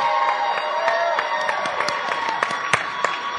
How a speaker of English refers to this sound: I'm going to base it on cheers and applause